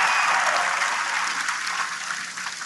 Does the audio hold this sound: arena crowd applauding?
yes